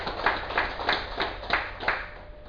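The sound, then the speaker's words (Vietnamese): Soft, steady audience applause at a Buddhist dharma talk on 13 January 2007 fills the whole clip, a hissy wash of clapping with regular swells about three times a second and no voices over it. “Xin quý vị vỗ tay một tràng vỗ tay.”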